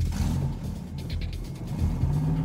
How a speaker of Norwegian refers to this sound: Butikksjefen, Pål Roar Bråten, starter opp og bilen ruller ut fra parkeringsplassen.